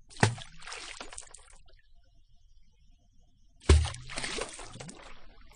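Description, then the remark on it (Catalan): Water sloshes and pours from a well bucket in the desert twice, each time opening with a hollow knock and then a second or so of splashing, separated by a quiet pause. No voices. “Mira, un pou!”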